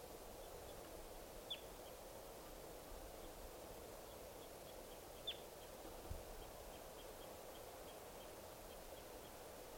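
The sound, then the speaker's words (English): Faint, high-pitched calls of wild birds coming down chirp repeatedly over steady background hiss, with two slightly louder notes standing out among a loose series of short, soft peeps. “These are the calls of the Wild Birds are coming down.”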